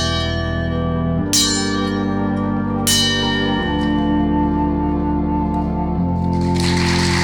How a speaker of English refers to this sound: Bellkeeper, toll the bell.